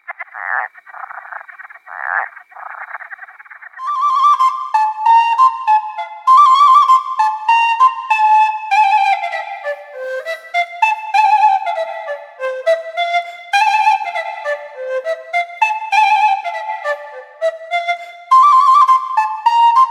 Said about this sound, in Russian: Слышишь, жаворонка трель? Это к нам пришел апрель.